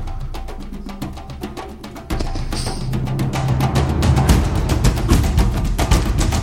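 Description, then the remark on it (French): Orchestral intro music from the soundtrack of the animated film Tarzan, with steady, driving drum beats that swell louder and fuller after a couple of seconds, sustained tones rising over the rhythm. No voices. “Ça, c'est de l'intro, en tout cas.”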